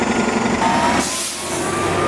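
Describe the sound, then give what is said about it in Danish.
A noisy city bus in Los Angeles idles and rumbles, then releases a sharp hiss of air brakes that fills the upper range before the engine drone continues. “Og heldigvis er den larmende bus væk igen.”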